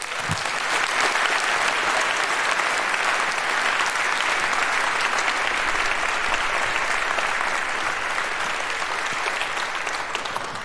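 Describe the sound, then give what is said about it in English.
A large audience applauds steadily for about ten seconds, welcoming speakers to a talk on post-quantum cryptography. It is a dense, even wash of clapping that holds at a consistent loudness without swelling or fading until the very end. “Please welcome them with a huge round of applause.”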